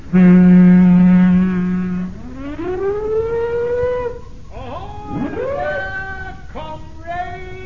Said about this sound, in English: Sound our siren, Chief.